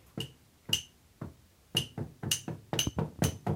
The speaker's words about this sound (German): Irgendeiner klopft dann irgendwie so im Vierteltakt irgendwo drauf, das klingt auch gut.